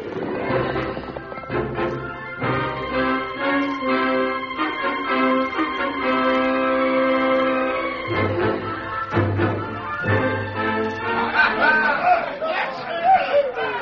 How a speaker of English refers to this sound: The crowd in the cafe at Dry Gulch was, as usual, noisy and boisterous.